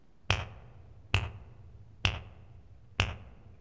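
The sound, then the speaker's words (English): Four crisp finger snaps at a steady, unhurried pace, each a sharp click with a quick decay, and no voices in between. “Fingers.”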